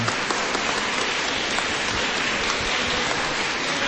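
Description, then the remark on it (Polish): Steady, dense applause from a crowd, loud, with many hands clapping continuously at an even level for the whole stretch and no voices standing out. “Brawa, promyczki dobra.”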